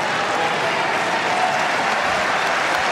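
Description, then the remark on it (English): A tennis crowd at a match between Rybakina and Paolini applauds steadily for the full three seconds, sensing Rybakina's chance ahead of a break point, a dense, even wash of clapping with no individual claps standing out and no voices heard. “The crowd sensing Rybakina's chance here.”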